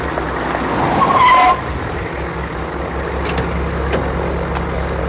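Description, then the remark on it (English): A car approaches at night across wet airfield tarmac toward a small plane, its tires hissing and briefly squealing as it brakes, then a steady engine rumble continues. No one speaks. “She steps down and walks across the wet tarmac, then breaks into a run as a car approaches.”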